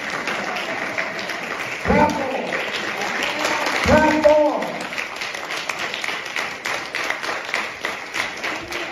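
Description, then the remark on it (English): A crowd claps steadily and densely the whole way through, with a couple of loud voices calling out over the applause around two and four seconds in. “Clap for him.”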